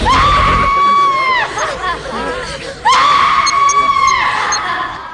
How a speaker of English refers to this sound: And scream.